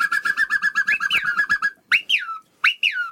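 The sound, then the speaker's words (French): A human voice imitates an albatross call in the France Inter studio, starting with a long, pulsing, nasal wail and following with two short rising-and-falling cries. The calls are loud and stand alone without other talk. “C'est l'albatros. Il y a plusieurs oiseaux là.”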